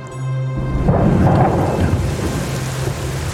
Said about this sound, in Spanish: La lluvia sigue golpeando, sigue llamando.